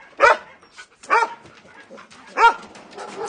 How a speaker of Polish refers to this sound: Przeznaczony do eutanazji ze względu na agresję. Jest cudownym psem.